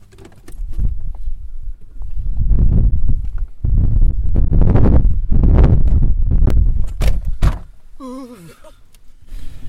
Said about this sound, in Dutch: 2 jaar geleden was het volop lente. Nu stormt het en is het koud.